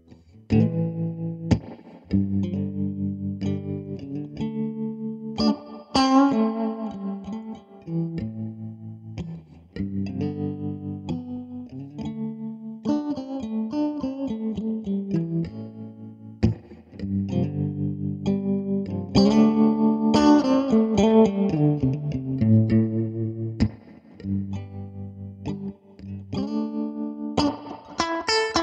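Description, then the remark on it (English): An electric guitar plays a busy melodic passage drenched in effects, with distorted, chorused tones and echoing notes ringing over steady low chords for about half a minute, with no voices. “Here's some guitar.”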